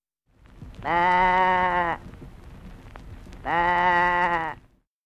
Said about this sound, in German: Das Schaf blökt.